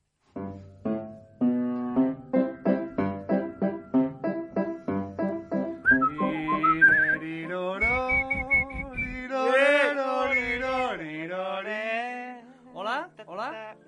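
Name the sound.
person whistling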